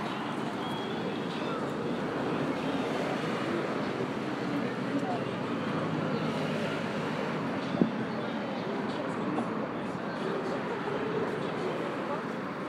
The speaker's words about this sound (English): I can only presume that racket's coming from a boat down there. Oh, there's another one going past, just underneath us.